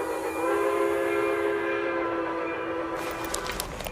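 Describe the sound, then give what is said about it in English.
A train to the city sounds its whistle, a long, steady, droning note over the rumble of the passing train, followed near the end by bursts of hissing and clattering. Fairly loud, with no talking. “I wanted to help Mom get on the train, but the steps were too high, so Mom helped me instead.”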